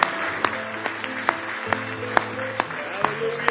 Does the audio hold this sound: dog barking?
no